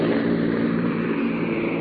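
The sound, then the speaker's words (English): A loud, steady engine drone fills the cabin of a C-47 transport plane carrying paratroopers over the Netherlands, a constant low roar with a throbbing hum and no pauses or voices, heard throughout on a muffled, old-sounding recording. “Ed Murrow, from inside a plane, described how the paratroopers jumped.”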